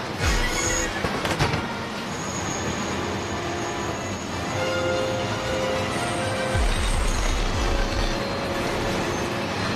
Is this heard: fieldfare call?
no